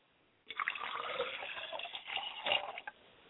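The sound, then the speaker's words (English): Liquid is poured out as a libation to the spirit Obatala in one steady, splashing stream for about two and a half seconds, swelling slightly near the end before stopping abruptly. Moderately loud, with no voices. “I like to pour libation to my father's spirit, Obatala.”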